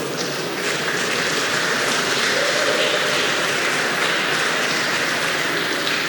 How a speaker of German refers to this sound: Sehr gut, Freiburg ist hier. Applaus bitte.